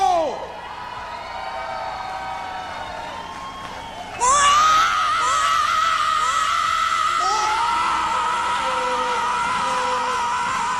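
A huge outdoor crowd at the Woodstock 1994 festival in the United States roars and whistles, then a loud, sustained amplified yell from an Italian singer bursts out and carries over the screaming audience for several seconds.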